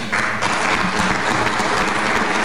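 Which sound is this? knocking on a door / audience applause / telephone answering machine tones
audience applause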